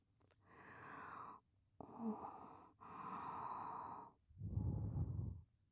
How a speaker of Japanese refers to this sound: ほら、お耳フーフーだよ。お兄ちゃんも好きだよね。じゃあするよ。受け止めてね、僕の吐息。